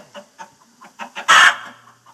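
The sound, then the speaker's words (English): Chickens cluck in a series of short clucks, building to one louder, drawn-out squawk near the end before trailing off into a few soft clucks. “And if there was any farm, there had to be chickens.”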